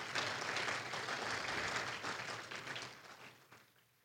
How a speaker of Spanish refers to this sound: Sí, dale un aplauso al Señor, dale un aplauso al Señor.